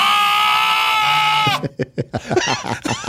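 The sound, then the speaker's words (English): A young lamb gives one long, loud, quavering bleat, and then a voice begins talking right after it. “How about this little lamb?”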